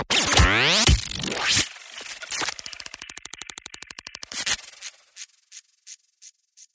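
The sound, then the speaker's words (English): A malfunctioning sump pump in a home basement beeping: harsh sweeping electronic squeals give way to a fast, buzzing train of pulses, then about five short, sharp beeps that trail off into silence. No one speaks. “we heard live on air what appeared to be some sort of beeping noise”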